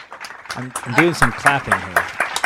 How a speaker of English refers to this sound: I'm doing some clapping here.